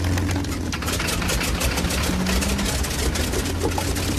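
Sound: aircraft engines starting up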